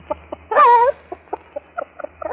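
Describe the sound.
A person imitates a hen laying an egg: a drawn-out, wavering squawk followed by a string of short, clucking bursts, fairly loud, with no other talking.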